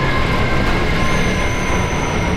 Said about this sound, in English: It is almost indescribable, the sound of that wind. The closest thing I can put to it would be a freight train rushing past with a choir of screams, unimaginably loud and unimaginably powerful and frightening.